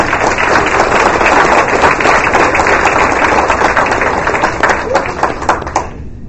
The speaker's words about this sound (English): So if you would give her one more round of applause.